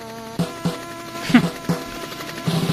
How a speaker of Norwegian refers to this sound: Nei, det er jo helikopter eller faen.